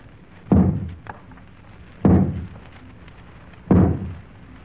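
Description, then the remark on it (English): An Archbishop knocks three times with his crozier on a great carved door that closes off a procession celebrating 20 years of reconstruction. The heavy, deep knocks each boom and fade slowly, spaced about a second and a half apart over a faint background hum. “The Archbishop steps forward, knocks upon the closed door with his crozier.”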